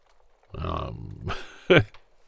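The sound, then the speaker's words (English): A person imitates a cat's purr with a short, throaty rumble lasting about half a second, followed by a breathy rasp and a brief, sharper vocal burst. “Never really tried purring before.”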